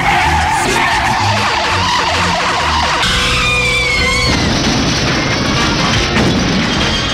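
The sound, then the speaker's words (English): A car arriving in the morning at the Creedence Blue Water Revival Broadcasting Company front door, heard on its door video, roars in with loud, squealing tire skids, the screech rising and sliding in pitch over a rumbling engine, followed by a crunching smash-like impact and continued noisy rumble. “Let me rewind this to your arrival this morning and see what it sounded like.”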